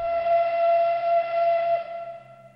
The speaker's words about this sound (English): When the Requiem ends in the multimedia concert Murray Sidlin created to commemorate Terezin, the mournful wail of a train whistle sounds.